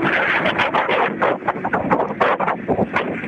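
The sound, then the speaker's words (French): Gusty wind buffeting a microphone during a live outdoor broadcast as the wind picks up, a continuous rough rumble with surging, uneven bursts and a broad hissing roar that never lets up. “À mon avis, il y a beaucoup de vent. Hein. Le vent se lève. Ça s'entend hein, dans le micro.”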